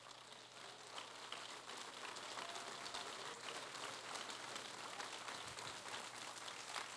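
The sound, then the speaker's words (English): An audience claps their hands together in worship, unto the King of Kings, a dense, steady wash of overlapping claps that holds at an even loudness for several seconds with no voices on top. “Because when I clap my hands, I wanted them to clap under the anointing of the Spirit.”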